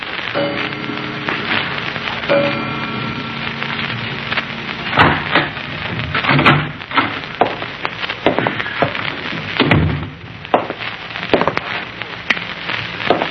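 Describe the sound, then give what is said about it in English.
In the evening, the door to a darkened room in a city creaks open against steady hiss of rain, followed by a few sharp wooden knocks and thumps as it swings and settles; no one speaks. “So the evening of his return to the city, he was waiting in a darkened room for the door to open and admit the man he had sworn to kill.”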